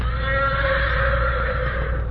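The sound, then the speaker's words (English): Morato's black horse whinnies in one long, loud call in answer to the horse Silver, with a faint waver in pitch, over a constant low rumble and no voices. “Morato's black horse heard him and answered his challenge.”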